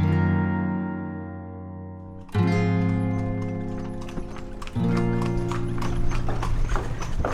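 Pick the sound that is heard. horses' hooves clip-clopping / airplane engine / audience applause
horses' hooves clip-clopping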